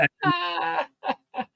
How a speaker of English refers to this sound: It's been a long day, Junior. I'm sitting fucking yawning.